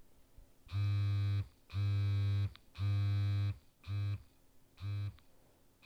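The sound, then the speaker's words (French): A connected vibrator buzzes in a Morse-like pattern, three long droning pulses followed by shorter ones, loud with nothing else playing, spelling out part of an SOS signal. “C'était point, point, point. Long, long, long. Point, point, point. Je crois que ça veut dire SOS.”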